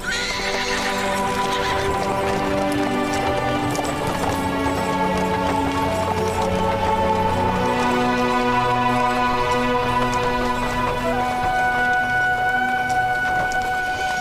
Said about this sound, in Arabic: هيا تحركوا. هيا امشي أيها الحصان، هيا سر.